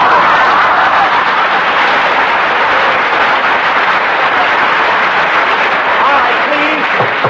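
Steady, loud audience applause fills the whole stretch, a dense, even wash of many hands clapping at once with no break or fade.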